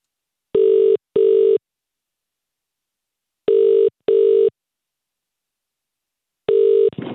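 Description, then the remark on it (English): A telephone ringback tone of a call to a tanning shop, Sunbed City, sounds in paired bursts, two short steady electronic rings, a pause, then two more, with a third ring cut off as the line picks up. “I'm going to connect you to a tanning shop okay right now.”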